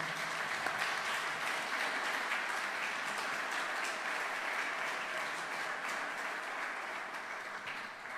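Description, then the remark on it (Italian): Sustained audience applause for Adriano Scianca, director of Il Primato Nazionale, a dense, steady wash of many hands clapping for about eight seconds, fairly loud and even throughout, with no voices standing out. “Buongiorno a tutti, eccoci come anticipato poco fa, ci troviamo qui oggi con Adriano Scianca, il direttore del Primato Nazionale, un grande applauso ad Adriano.”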